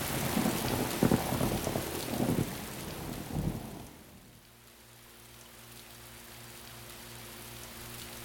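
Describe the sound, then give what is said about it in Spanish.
Heavy rain pours down loudly with deep rumbles of thunder for about four seconds, then the storm abruptly turns muffled, leaving a soft hiss over a steady low hum. “esto ya es una tormenta.”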